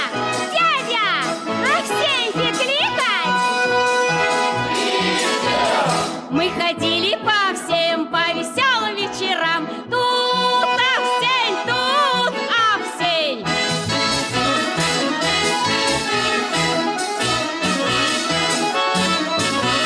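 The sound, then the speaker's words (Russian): A group of village children going from house to house with a star sings a Christmas carol together, loud, their voices carrying on without pause for the whole stretch, with a bright jingling layered in. “Наши деревенские ребят поют песни про Рождество.”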